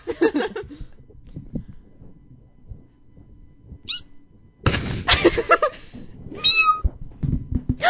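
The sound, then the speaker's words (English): A kitten named Sherlock mews several times in short, thin, high-pitched cries, with some rustling and soft thumps in between. “We have a kitten!”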